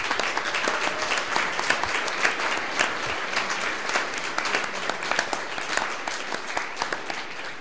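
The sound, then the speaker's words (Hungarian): Sustained audience applause at the annual Kelet meeting, as representatives of the attending towns and regions are asked to stand: dense, steady clapping from many hands at an even loudness throughout, with scattered sharper claps standing out and no voices audible. “Egyben szeretném kérni, hogy álljanak föl ezeknek a városoknak, vidékeknek a képviselői egy taps erejéig.”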